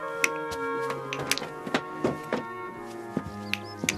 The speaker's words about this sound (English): He picks up a painted cup and ball puzzle and begins to expertly flick the little wooden ball on its string into the wooden receptacle in his outstretched hand.